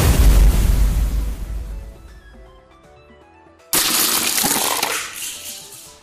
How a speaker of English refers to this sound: Fire cannon. Computer select action. Each other's blocks are attacked. The evil chocolate cookie launched fire cannon from block 16.